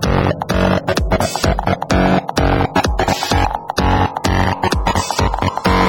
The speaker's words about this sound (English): Okay, now we need some fat distortion.